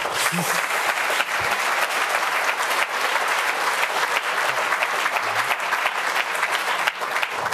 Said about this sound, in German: Applaus!